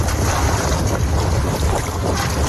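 Waves slap steadily against an iron boat hull, a loud, continuous wash of water with low, hollow thuds and a gusty wind roar, no voices present; recorded aboard the Open Arms humanitarian sailboat Astral.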